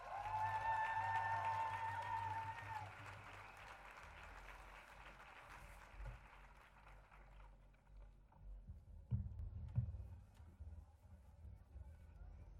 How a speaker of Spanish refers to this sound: Ahora vamos a escuchar la palabra de todas las compañeras zapatistas en voz de una compañera insurgenta. Recibámosla con un fuerte aplauso, compañeras.